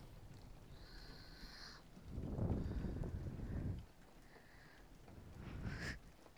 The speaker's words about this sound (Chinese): 打雷啊！真的是烦，怎么今天雨下那么大呀？